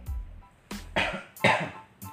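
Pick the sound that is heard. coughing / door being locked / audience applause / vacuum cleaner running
coughing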